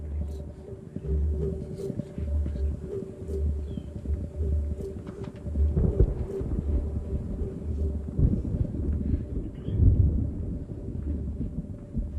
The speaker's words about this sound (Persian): خانم ها و آقایان، یه طوفان داشت به سمت مگی و پال می اومد، درست مثل طوفانی که الان دارید حسش می کنید.